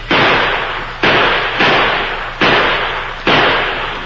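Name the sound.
gunfire exchange sound effect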